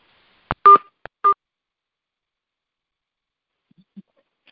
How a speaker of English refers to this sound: I'm going to try to mute the entering and exiting beeps that keeps happening. Hold one sec.